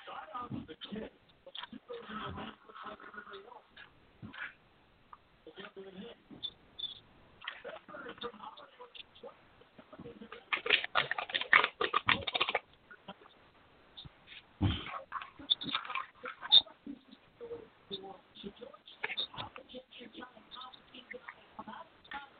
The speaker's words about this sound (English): So I'm going to shuffle the cards real quick.